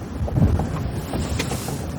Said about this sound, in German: Wir sind voll im Wind.